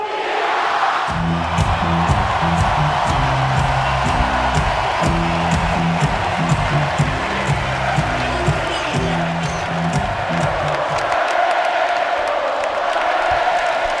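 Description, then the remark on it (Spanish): A packed arena, the Wizzing, roars with sustained crowd noise, applause, ovations and chants for the players of Spain's European champion team, while rhythmic low thumps like a drum or stomping beat pulse steadily underneath for much of the time. “Increíble el sonido en el Wizzing, con aplausos, con ovaciones, con cánticos a todos los jugadores.”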